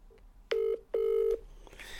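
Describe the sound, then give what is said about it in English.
Telephone keypad tones as a number is dialed on a phone to call someone during a radio show: two loud, steady mid-pitched beeps, a short one then a longer one, heard alone, followed by faint hiss. “Let's call her.”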